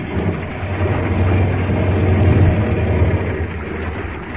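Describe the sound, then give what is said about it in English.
A seaplane touches down on water, its engine a loud, steady roar over rushing, churning noise that swells slightly midway and holds throughout, with no voices. “I'll put the plane down in the water close by.”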